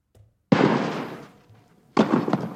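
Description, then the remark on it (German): Two loud, sharp tennis ball hits ring out about a second and a half apart, each trailing off in a long, echoing decay, with no voices; a jingle symbolizing a tennis tournament. “So, das waren jetzt keine Schüsse, sondern ein symbolisiertes Tennisturnier und das ist mein neuer Jingle fürs Aktienturnier.”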